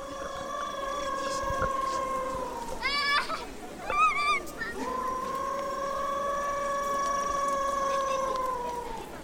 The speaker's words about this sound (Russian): Вороны или какие-то другие птицы. Это саамы, саамский театр.